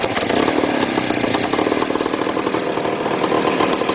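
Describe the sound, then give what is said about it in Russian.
A small motorcycle engine runs steadily and loudly, with a rapid rattling chug and mechanical clatter throughout. It powers a homemade rail trolley on a narrow-gauge railway at Frantsevo. The engine was taken from a motorcycle such as a Voskhod or Minsk and drives the trolley by a chain. No one speaks. “Снимали двигателя и ставили на эти дрезины.”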